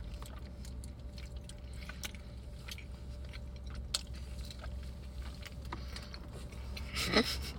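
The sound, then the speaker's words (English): Wet, crunchy chewing and biting sounds of someone eating a big Taco Bell grilled cheese burrito, with soft irregular clicks and squishes over a low steady hum, ending in a louder crunchy bite near the end. “Taco Bell full eating video.”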